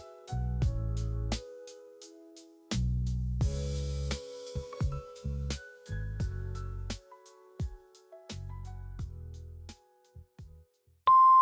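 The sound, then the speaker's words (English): A short, rhythmic instrumental passage gives way to a single loud, steady voicemail beep tone at the very end, a clean electronic pitch held for about half a second. “Please generate your message after the beep.”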